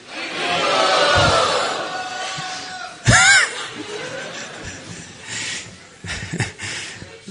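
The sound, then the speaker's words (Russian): An audience loudly shouts the chant "Haribol" together with raised hands in a loud, swelling roar, then a sharp burst of noise, followed by scattered voices and shouts that trail off. “Пожалуйста, поднимите руки и громко крикните Харибол.”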